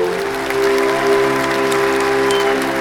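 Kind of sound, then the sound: crowd, loud applause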